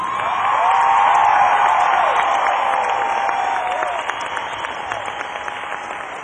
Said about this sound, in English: big round of applause to the band!